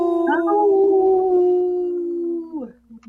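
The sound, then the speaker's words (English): Several voices let out a long, loud wolf-like howl together on the radio show Native Roots Radio Presents I'm Awake, in a spot for Howling for Wolves, holding a steady pitch for about two seconds before sliding downward and trailing off. “This portion of the show is supported by Howling for Wolves, protecting wolves for future generations. Howl!”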